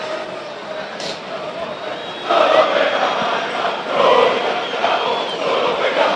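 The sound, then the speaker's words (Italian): A large stadium crowd of Fiorentina football fans chants 'noi cantiamo solo per la maglia' in unison, the massed voices swelling louder in waves over a steady roar, with no single voice standing out. “Tanto i cori che forse sentite, noi cantiamo solo per la maglia, sono dei tifosi ovviamente della Fiorentina.”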